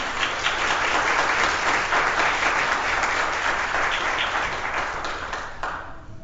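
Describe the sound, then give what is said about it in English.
A crowd applauds steadily, a dense wash of many hands clapping at once that holds loud and even for several seconds before thinning slightly toward the end. No one speaks over it. “God, we thank you for the applause, because we recognize in this, in some manner of speaking, and in fact in every manner of speaking, your will is found in expressions of love.”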